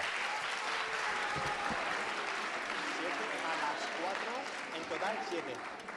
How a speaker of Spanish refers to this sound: Francia. ¡Correcto! ¡Un fuerte aplauso!